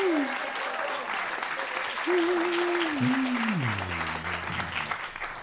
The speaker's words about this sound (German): Also, jetzt nochmal euer Applaus für den dänischen Bong.